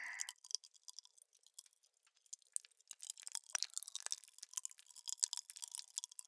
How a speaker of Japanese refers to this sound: 舐めると口の中で弾けるのだ。面白いだろう、少し食べてみろ。うむ、一緒にいただくとしよう。ふんふんふん、甘い。ほんとだ、口の中でパチパチ弾けてる。